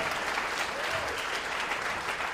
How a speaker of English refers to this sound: That got less applause than a reference of T.J. Miller.